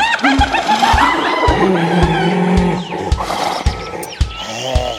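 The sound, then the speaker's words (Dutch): Hyenas cackle loudly, a continuous run of high, sliding, yelping giggles over a steady rhythmic thumping beat, with no one talking. “En de hyena's.”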